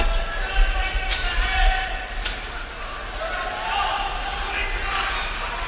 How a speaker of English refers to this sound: I'm not sure if you can hear this, but there is a lot of yelling going on from both benches. Neither coach is really happy at the way this has been called. A lot of yelling from the crowd, too.